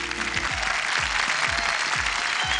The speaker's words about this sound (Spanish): Aplausos para ti.